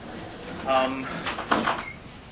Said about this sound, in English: Open the door for a second.